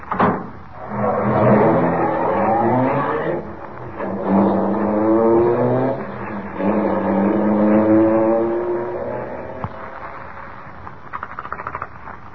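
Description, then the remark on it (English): A car engine revs and pulls away, climbing in pitch through several gear changes as it accelerates, staying loud before tapering off, with a few faint clicks at the end. “Sure. Hop in.”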